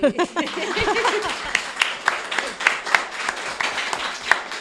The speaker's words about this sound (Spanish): Y muchas gracias a ustedes, a los entrevistadores, a toda la clase que están preparados para aplaudir.